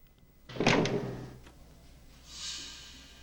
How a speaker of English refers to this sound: He pauses at a corner, then stamps his foot, trying to flush out his adversary.